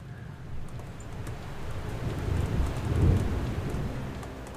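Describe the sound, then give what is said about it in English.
Steady rain hisses across the whole spectrum while a low, rolling rumble of thunder swells in the middle and fades, a full stormy soundscape with no voices. “I want some dark and stormy music. I want some anticipation built. I want some rain.”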